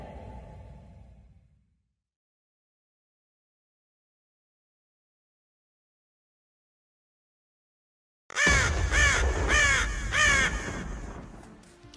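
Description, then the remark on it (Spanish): After a short low rumble and a long silence, a crow bursts into loud, harsh cawing, several rapid caws in a row that trail off slightly at the end. “La noche de anoche, un cuervo mágico voló a las cuatro esquinas del universo conocido en busca de los más expertos, de los que sí saben, de los intelectuales, de los historiadores del gaming, pero solamente encontró a un hombre que suda de la nuca.”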